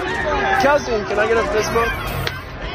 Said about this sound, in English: What you heard there at the end was the pop of a phone smashing on the ground when someone used a slur asking Jason Kelce what they thought about his brother